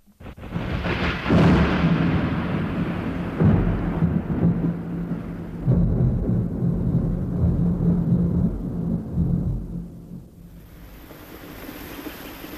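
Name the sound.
rain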